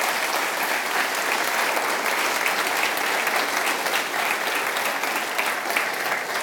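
Steady, dense applause from an audience, a continuous crackle of many hands clapping at a fairly loud, even level for the whole stretch, with no voices standing out.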